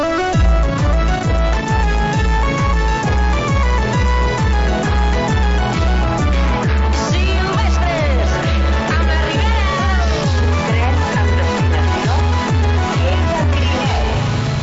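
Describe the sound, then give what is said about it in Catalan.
An upbeat song, this summer's song of the Lleida region, plays on the radio at full volume, with a steady thumping bass beat, bright layered instruments and a voice singing over the music throughout. “Però nosaltres us proposem que escolteu la cançó de l'estiu de les Terres Lleidatanes d'aquest estiu.”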